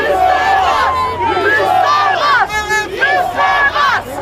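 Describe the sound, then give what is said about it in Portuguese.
A crowd of angry anti-lockdown protesters shouts at police face to face, demanding freedom and no more lockdown, many voices yelling over one another in loud, strained bursts with rising and falling pitch, sustained chaotic noise throughout. “Eles também ficaram frente a frente com a polícia e, revoltados, gritavam com muita raiva: "Você tem que nos servir, liberdade e não queremos mais confinamento."”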